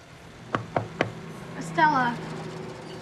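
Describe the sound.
Three quick, sharp knocks on a wooden office door, evenly spaced, followed a moment later by a brief voice speaking.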